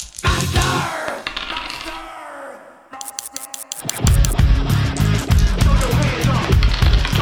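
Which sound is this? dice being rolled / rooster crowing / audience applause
dice being rolled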